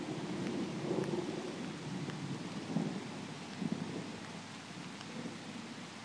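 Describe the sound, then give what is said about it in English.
Steady rain pours down in a dense, hissing wash, increasing, while low rumbles of thunder roll beneath it, swelling briefly a few times, during a storm with lightning and no voices present. “The rain increases.”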